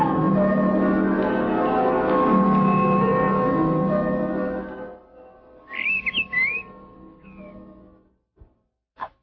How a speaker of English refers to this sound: Bird. A bird. But that was all. The bird didn't call again.